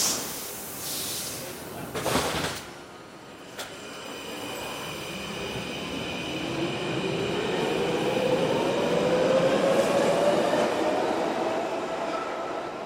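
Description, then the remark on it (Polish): A metro train in Brussels rumbles along the track, its steady roar building and holding, with a rising whine from the motors and a hiss of air. “Takim najpopularniejszym środkiem transportu w Brukseli, w większości Polaków, jest metro.”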